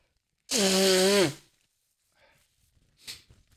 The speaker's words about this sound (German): Und ich muss mal meine Nase putzen, ihr Lieben. Sorry.